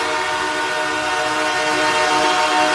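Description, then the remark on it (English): A buzzer sounds for the end of the first period: one long, steady, harmonically rich blare that holds at an even loudness for the whole stretch, with no voices over it. “That is the buzzer signaling the end of the first period.”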